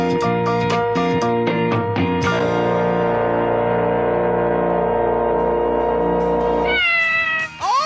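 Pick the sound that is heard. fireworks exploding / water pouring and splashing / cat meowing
cat meowing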